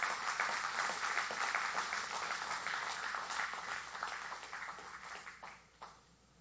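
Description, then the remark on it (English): A crowd applauds the students steadily, a dense patter of many hands clapping at a fairly even level before thinning and tapering off near the end. “Let's give the students one more round of applause.”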